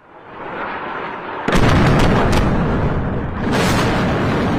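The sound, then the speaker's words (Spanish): A low rumble gives way to a sudden, loud explosion from Israel's bombing of Lebanon, followed by a sustained roaring, crackling blast and a second surge of detonation noise. No voices. “Los bombardeos de Israel sobre el Líbano.”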